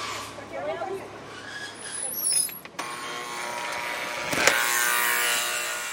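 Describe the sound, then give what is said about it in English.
A large Lawrence school bus engine rumbles steadily as displaced residents board the bus headed south, then a sharp hiss of air brakes bursts out near the end and gives way to a broad, lingering noisy wash. “the Brigolis boarded a Lawrence school bus headed south”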